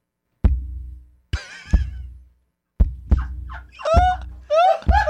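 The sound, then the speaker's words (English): Heavy, booming footfalls of a person coming down a staircase from the kitchen thud in an uneven rhythm, making the floor vibrate: about seven deep low thumps with rumbling resonance, joined toward the end by high squeaky creaks. No one speaks. “I just got the perfect sound because there's a vibration that happens when I'm coming down from the kitchen.”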